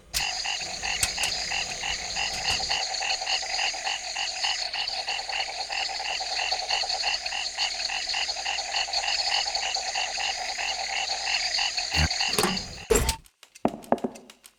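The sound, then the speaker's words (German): Ambience of a German forest filled with a dense chorus of croaking frogs, steady rhythmic pulsing calls holding for about thirteen seconds before cutting off into a few scattered clicks and knocks. “Ein deutscher Wald.”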